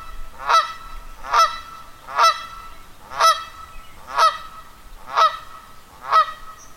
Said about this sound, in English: And here in front of me are coming three Canada geese. They're about 10 feet away from me right now.